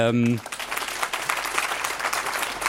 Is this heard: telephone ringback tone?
no